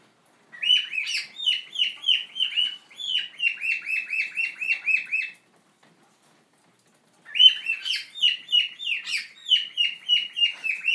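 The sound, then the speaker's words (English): A pet bird named Storm sings a bright, rapid warbling song of repeated high chirps and trills, pausing for a couple of seconds before starting up again, while a storm rages outside. No one speaks. “That's a pretty song, Storm.”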